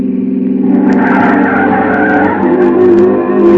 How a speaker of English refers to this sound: It's an old car, pre-war. It sounded like it was splitting at the seams.